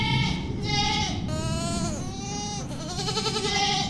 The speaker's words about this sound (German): Das sind die Bewohner im neuen Schaf- und Ziegenstall des NABU im Umweltzentrum Friesheimer Busch in Erftstadt. Gebettet auf Heu und Stroh.